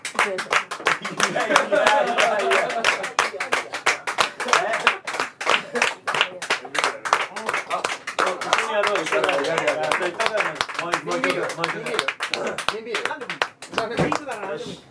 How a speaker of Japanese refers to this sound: 拍手されてます。